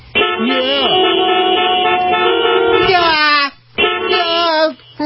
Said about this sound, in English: Road trip, and you hate it when all those horns are honking at me. Get out of the way.